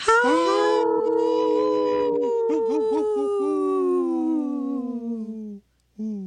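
Wolves howl together in a long, sustained chorus. Several voices overlap, rising and gently falling, with a brief wavering stretch in the middle, before one final short howl.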